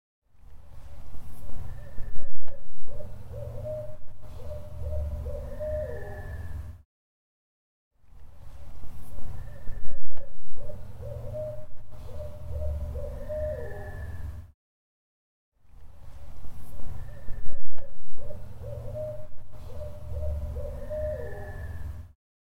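owl hooting

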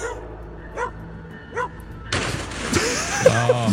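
dog barking

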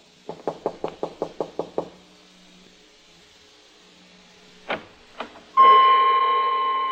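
knocking on a door

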